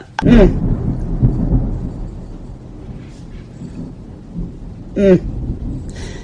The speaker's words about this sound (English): Now, I would call that roll of thunder beautiful.